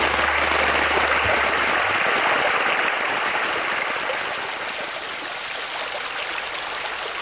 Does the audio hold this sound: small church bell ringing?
no